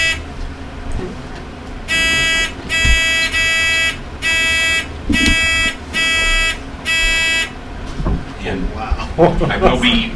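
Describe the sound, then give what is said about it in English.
A series of about six electronic quiz-bowl buzzer tones sound one after another during a buzzer check before a quiz bowl match round, each a short, bright, steady buzz, over faint murmur and some background voices. “Would you like to do a buzzer check?”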